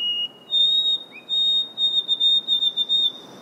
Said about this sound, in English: She's caught songs that are emblematic of summer in the North Woods, like the Swainson's thrush. And the white-throated sparrow.